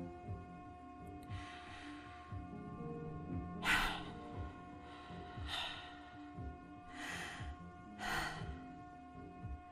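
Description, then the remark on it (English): Heavy, noisy breathing: about five deep, rasping breaths at a slow, irregular pace, with a low steady hum underneath and no talking. “Breathing is nice.”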